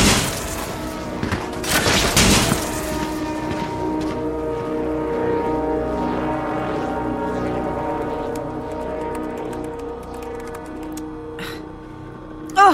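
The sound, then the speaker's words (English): A rapid burst of sharp gunshots cracks out in the first couple of seconds, then fades into a steady, humming tonal backdrop with a few isolated pops near the end. “Is it too much to hope that that's just an engine backfiring?”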